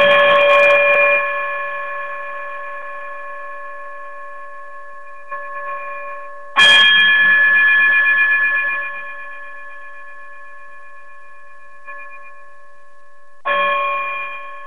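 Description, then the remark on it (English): A bright chime struck three times at slow, even intervals to close a show, each strike ringing out in a long, shimmering sustain that slowly fades. No voices, just the chime, clear. “if you would, chime us out of here.”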